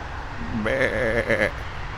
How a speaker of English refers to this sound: What was that weird noise? Sounded like a goat. Did I just hear a goat bleat? I could swear I just heard a bleating goat.